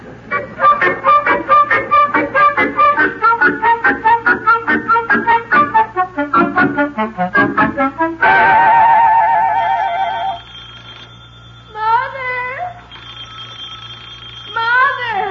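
household object, telephone bell ringing

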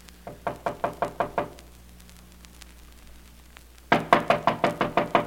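household object, knocking on a door

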